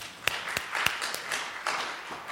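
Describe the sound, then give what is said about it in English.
An audience clapping hands together: a steady, dense patter of many claps, with a few sharper, louder claps standing out at a roughly regular beat. No one speaks. “If you say amen, clap your hands to it.”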